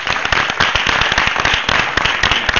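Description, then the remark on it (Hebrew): A crowd breaks into steady applause for the council employees of Pardesiya: dense overlapping claps at a loud, even level with sharp individual hand strikes popping out of the wash throughout. “מגיע למחיאות כפיים.”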